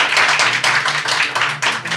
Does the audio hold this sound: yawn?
no